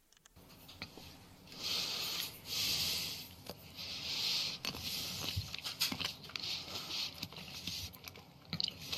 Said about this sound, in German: Kannst du nicht einen einzigen normalen Atemzug machen? Geht das nicht? Der schnauft wie jemand, der gerade Marathon gelaufen ist. Das ist unfassbar.